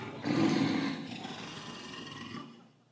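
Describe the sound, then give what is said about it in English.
A lion lets out a single deep, loud roar that swells quickly, holds with a rough, rumbling texture for a couple of seconds, then fades away. “I tell you what, a lion's a vicious thing, man.”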